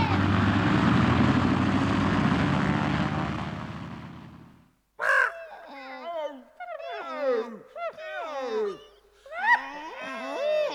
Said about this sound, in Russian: Самолет отлетает. Слышишь, уже завели моторы. Посадка заканчивается.